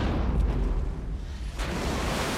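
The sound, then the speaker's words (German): A bomb explodes underwater: a deep, rumbling heavy boom that churns into a sustained roar, with a second surge of rushing noise about halfway through. It's loud and has no voices. “So klingt es, wenn eine Bombe im Wasser explodiert.”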